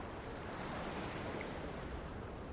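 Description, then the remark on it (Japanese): Small waves of a calm spring sea lap softly and steadily at the shoreline in fine weather, nearly reaching two people's toes before drawing back, a continuous gentle wash of water with a faint breeze, no voices present. “さざ波が、二人のつま先に届きそうになっては、また引いていく。”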